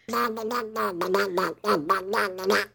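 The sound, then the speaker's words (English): A person does a Donald Duck voice impression: a run of raspy, nasal, quacking babble in quick syllables, with one brief pause near the middle. “how much do you like my Donald Duck on a 1 to 10?”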